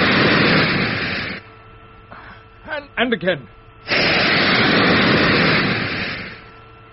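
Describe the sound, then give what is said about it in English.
Spaceship braking jets fire at nine-tenths maximum in two loud, sustained bursts of roaring hiss, steady, separated by a short pause where a voice briefly speaks. “I'm going to brake pretty hard.”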